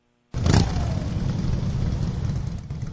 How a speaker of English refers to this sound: The motorcycles formed a procession 200 riders long, down streets lined with American flags and yellow ribbons.